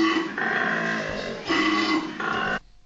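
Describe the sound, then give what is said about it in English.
A deep, raspy bellowing grunt from a koala during a fight between two koalas, loud, pulsing in three strong surges over a few seconds before cutting off abruptly, with no talking. “It was two koalas fighting.”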